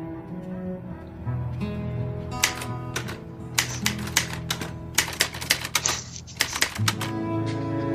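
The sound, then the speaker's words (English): Fast, uneven clacks of typewriter keys being struck hard, starting after a couple of seconds and growing denser, over a steady low hum; from a scene in the film Finding Forrester. “Punch the keys, for God's sake!”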